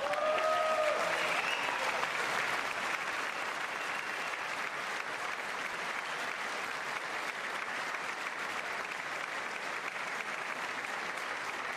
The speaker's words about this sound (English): I wasn't sure if anybody even on this side was going to applaud for that. I'm very impressed.